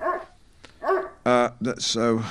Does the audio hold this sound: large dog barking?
yes